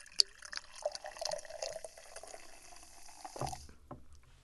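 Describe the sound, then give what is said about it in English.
Sprecher Brewery root beer soda, made in Glendale, Wisconsin, glugs and fizzes as it pours steadily into a frosted glass mug for a few seconds, moderately loud, then stops with a soft clunk. No one speaks. “Glendale, all right, I'm going to pour it in the glass.”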